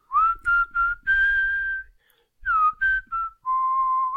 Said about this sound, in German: Nochmal. Ich pfeife diesmal, vielleicht klappt es dann besser.